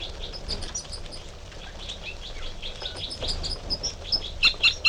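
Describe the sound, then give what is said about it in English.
Two type 3 female birds trading toop and fight calls in a direct confrontation: short, high chirps repeated throughout, growing louder and denser into sharp bursts at the end, over a low steady rumble with no talking. “Stop recording 5 minutes later, and there's another interaction between the two females with toops and fight calls.”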